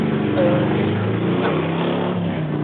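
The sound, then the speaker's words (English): A motorbike engine drones steadily as it goes past, its low rumble shifting slightly in pitch, with faint voices mixed underneath. “Yeah, there was a motorbike going past me.”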